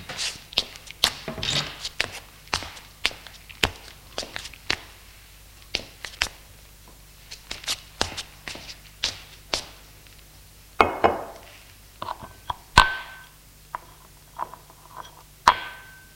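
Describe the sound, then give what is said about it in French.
Glasses and a bottle of liqueur are set down on a table, making a series of sharp clinks and knocks at irregular intervals, with quiet shuffling between them and no talking. “Il arrive et pose les verres et une bouteille de liqueur sur une table.”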